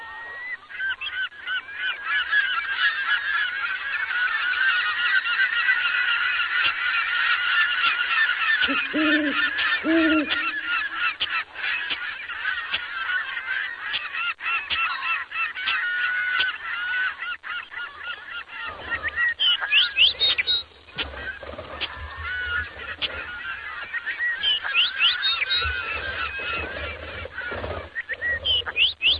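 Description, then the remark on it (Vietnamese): A flock of seagulls flying over the sea calls continuously while flapping their wings, many harsh overlapping cries crowding together loud for the whole stretch, with no one speaking. “Dưới chân núi là mặt biển màu xám bạc, vài con chim hải âu bay lượn trên không trung, vừa vỗ cánh vừa cất tiếng gọi bạn nghe ríu rít.”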